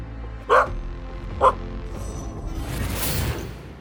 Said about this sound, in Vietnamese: Tổng thống Ronald Reagan sau này cũng viết trong cuốn tự truyện rằng vào nửa đêm, con chó Rex của ông không đi vào nhưng hãy đứng trước cửa một căn phòng và sủa. Đó là nơi tổng thống Lincoln từng làm việc.